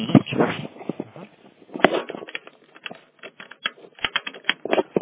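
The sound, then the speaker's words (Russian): Sharp plastic clicks and clatter as a just-unplugged cable connector is fumbled and pushed back into its port until it clicks, with several distinct snaps amid light handling rustle. “Так, и сейчас вставить обратно до щелчка также.”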